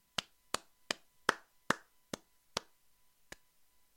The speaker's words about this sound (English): That clap typifies this show already.